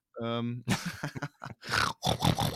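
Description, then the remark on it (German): A man imitates a pig with a drawn-out, buzzy grunt, followed by several rough, snorting bursts of voice. It sounds fairly loud. “Ich bin ein Schwein.”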